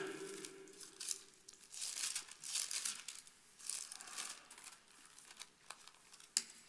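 Papery rustling and crinkling in irregular bursts as pages held with paper clips are flipped and shuffled, with a sharp snap near the end; no one speaks.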